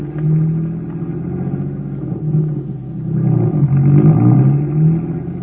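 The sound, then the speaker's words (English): A car engine rumbles loudly and steadily, its pitch rising and falling as it revs up twice toward the end. No one speaks. “Get the car going. Let's get there.”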